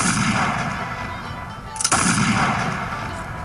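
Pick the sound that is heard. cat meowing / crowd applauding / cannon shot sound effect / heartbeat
cannon shot sound effect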